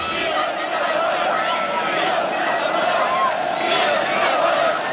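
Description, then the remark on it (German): A crowd of about 70,000 on a peaceful evening protest march through the city centre of Leipzig in the GDR, filmed by opposition members, many voices blending into a steady, loud roar with chanted calls such as "Wir sind das Volk" rising above it, continuous throughout with no pauses. “Zum Glück haben einige Oppositionelle diesen Zug gefilmt und uns so ja ein bisschen von der Stimmung dieses Abends konserviert.”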